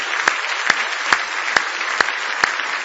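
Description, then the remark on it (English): A large group applauds steadily in praise of God, a dense wash of clapping hands with sharper, evenly spaced accents about twice a second, as if some are clapping in rhythm. No voices stand out. “Give Him a nice hand clap of praise tonight if you love Him.”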